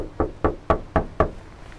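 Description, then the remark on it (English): Five firm knocks on a wooden house door in a steady, even rhythm, fairly loud, with no voices, as someone checks whether anyone is home. “whether anyone is here, we'll find out.”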